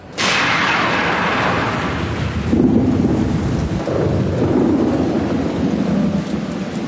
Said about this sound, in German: Wir müssen schnell runter vom Berg. Es fängt schon an zu blitzen. Jetzt wird's gefährlich.